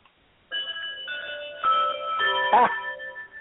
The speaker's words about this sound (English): Well, that's our bell. We're going to move over to our next segment.